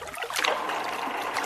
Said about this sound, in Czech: Zgrada u kojoj se snagom vode melje žito.